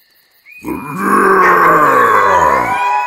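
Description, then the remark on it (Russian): A man lets out a loud, drawn-out roar lasting a couple of seconds, rough and throaty, pitch sliding slightly downward before it cuts off, with no other sounds around it. “От моего рева хищники невольно вздрогнули, и это дало мне возможность прыгнуть ближайшей твари прямо на спину.”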